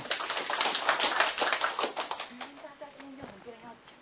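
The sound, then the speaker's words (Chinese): A small group applauds to welcome a speaker coming up to share an experience, a dense burst of clapping that tapers off after a few seconds, with a voice faintly emerging as the clapping fades. “掌声鼓励。”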